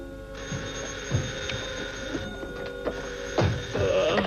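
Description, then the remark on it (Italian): A telephone bell rings steadily with a bright, metallic trill, fairly loud, over a faint background hum, with no one speaking, in an Italian radio drama of Grand Hotel as Baxter lies in bed. “Suona il telefono e sentiamo chi è.”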